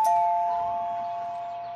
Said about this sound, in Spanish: La familia Otero estaba en la cocina cuando sonó el timbre de la casa.